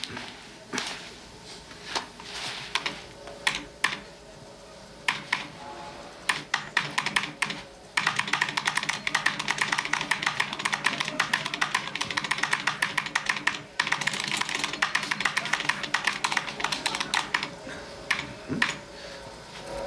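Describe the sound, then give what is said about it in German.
Rapid, continuous clatter of computer keyboard typing, crisp, starting lighter and becoming dense and fast after a few seconds, with only a brief pause near the end. “Das da ist die Tastatur.”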